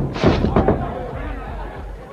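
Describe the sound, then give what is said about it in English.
A huge barrel of molasses, hung from a boom, falls when its rope breaks and crashes down onto a dock: two or three loud, booming thuds in quick succession, then a low rumbling clatter that slowly fades. “The barrel hurtled toward him through the air.”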